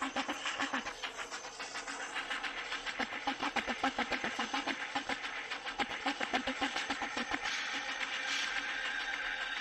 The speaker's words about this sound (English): This is all the noise that the trains have recorded in all of their travels all over the world.